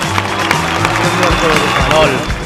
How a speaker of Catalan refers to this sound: Aplaudiments.